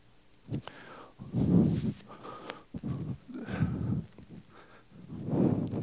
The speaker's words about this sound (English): You can hear me breathing. Can you hear what I'm saying? I hope you hear what I'm saying. I'm sorry you're hearing me breathing.